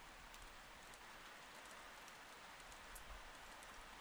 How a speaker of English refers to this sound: Oh, shit, it's really pouring, huh?